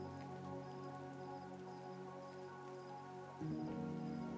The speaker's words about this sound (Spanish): Qué linda la lluvia, ¿no? Escuchándola me pongo a pensar que nunca he sentido algo igual. Es un sonido que me da paz, pero a la vez que es sutil y bello por sí solo.